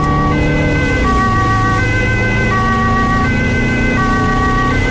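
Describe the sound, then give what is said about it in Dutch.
A loud two-tone ambulance siren alternates steadily between high and low pitches as the ambulance heads to an accident in the city centre of The Hague, wailing over a dense rumble of traffic and engine noise, with no talking. “De ambulance is onderweg.”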